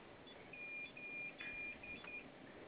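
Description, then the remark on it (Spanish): A series of short, high-pitched electronic beeps from keypad presses of the pound key, asterisk and number 5, about five tones in an uneven rhythm, each clear against a low background hiss with no talking. “Vamos a presionar tres veces la tecla de gato, asterisco y el número 5.”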